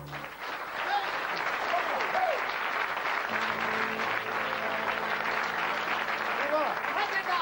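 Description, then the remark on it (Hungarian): Sustained audience applause, a dense wash of clapping at steady loudness throughout, with a few voices and whoops rising above it and a low hum entering partway through. “Hát tapsoljanak, maradj már magadnak, van jó közönség.”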